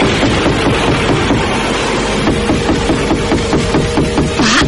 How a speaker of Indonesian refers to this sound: Ada orang di luar rumah kita, Pak. Siapa hujan-hujan begini? Hati-hati loh, Pak. Dalam keadaan seram seperti ini, kok ada orang ketuk-tuk pintu?